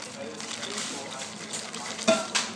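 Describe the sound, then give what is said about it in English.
Ice rattles and swirls in a glass of water, a steady faint clattering with a couple of sharper clinks near the end. “This water's got loads of ice in it, listen.”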